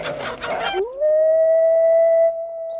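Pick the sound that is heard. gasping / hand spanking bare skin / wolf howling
wolf howling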